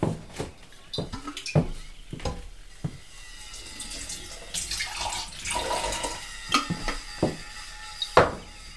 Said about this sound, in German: dass man da in die Küche gegangen ist, das Wasserglas wird voll gemacht